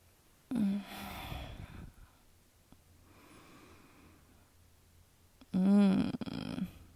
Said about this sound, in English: That yawn tells me everything I need to know, baby. Don't lie. I know you're tired, my love.